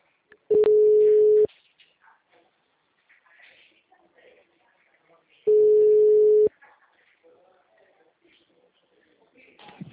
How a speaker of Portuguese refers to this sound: Mensagem gratuita de telefone ocupado. Aguarde alguns minutos para voltar a ligar.